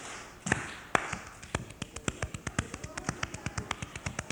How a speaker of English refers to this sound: That's a slapping on both sides of your hands, clapping on both sides, I mean.